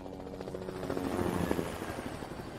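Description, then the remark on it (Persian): A helicopter drones in the distance over Caracas, Venezuela, at 2 a.m. on January 3, 2026, during a power outage, its rotor producing a steady low thumping hum that swells slightly in the middle and holds throughout, with no voices present. “شهر بیدار نیست، برق قطع میشه و درست زمانی که هر صدایی بزرگتر از حد معمول شنیده میشه، صدای هلیکوپتر هم از دور میاد.”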